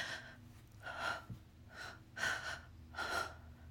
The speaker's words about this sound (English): You can already hear in my breathing that you're getting me close to the edge.